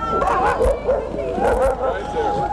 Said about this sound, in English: Two sled dog teams are now in the chute.